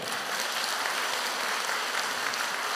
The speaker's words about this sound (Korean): 아멘. 박수.